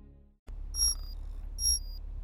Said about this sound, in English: This is your internal conduction alarm. It is 5:35 Coordinated Universal Time.